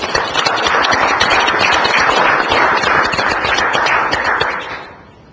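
An audience applauds: dense, steady clapping holds at a fairly loud level for about four and a half seconds, then tapers off quickly. No one speaks over it.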